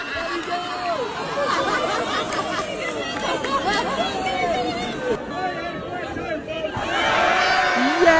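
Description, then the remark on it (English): A lively crowd cheers and chatters with many overlapping voices calling out at a dachshund wiener race, cheering on a dog with paralyzed hind legs using a wheelchair; a steady loud hubbub that swells slightly toward the end. “And he also recently participated in weenie races, where he was a little slow to start until he got the crowd all cheering for him.”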